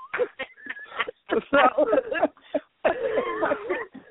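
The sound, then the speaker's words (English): Several rough, hacking coughs burst out in uneven clusters over a few seconds, fairly loud, with throaty, voiced rasps running between the harsher bursts. “You sound like old people hacking up.”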